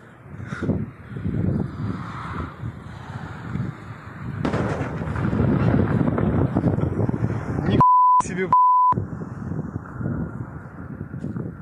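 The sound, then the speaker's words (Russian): Rumbling, booming blasts of explosions in Belgorod echo through an outdoor urban space amid wind noise and crows, with people talking and a couple of short electronic bleeps cutting in near the end. “Я вот еще попрошу наших редакторов включить видео взрывов в Белгороде, посмотрим, что там происходит.”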